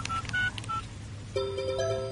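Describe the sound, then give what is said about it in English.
Three quick electronic keypad beeps from a phone dialing a lost mobile phone, followed by a steadier, louder tone that holds to the end. No voices, just a low background hum. “Oh, but can you phone me first? Then if my mobile's in the cafe, maybe someone will answer it.”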